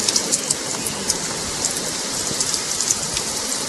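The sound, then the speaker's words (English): Heavy rain pours down steadily, a dense wash of hiss with scattered sharper drops pattering, continuous and fairly loud with no voices. “Listen to that rain.”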